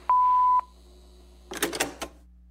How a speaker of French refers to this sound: Après la tonalité, c'est moi qui vous laisse un message.